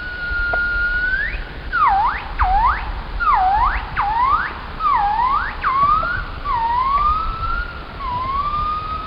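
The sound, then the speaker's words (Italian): High-pitched song of a gibbon that vocalizes at high frequencies, like those of the genus Nomascus, closely resembling birdsong. It opens with a long rising note, then a rhythmic run of about seven sharp swooping up-and-down whoops, easing into slower gliding rising calls, loud and alone over a low background rumble. “Suoni che nei gibboni che vocalizzano nelle alte frequenze, come i nomascus, somigliano molto ai canti degli uccelli.”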